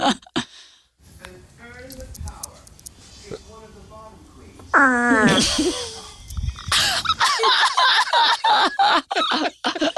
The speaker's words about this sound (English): We've got one more fart okay. for you.